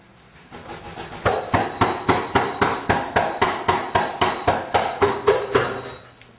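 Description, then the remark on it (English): Heavy, steady pounding on a house door by police, about sixteen loud thuds in a fast, even rhythm, each blow booming and rattling, with no voices over it. “So let's go ahead and start with the video, and we'll start with the first part where where the police are pounding on her door.”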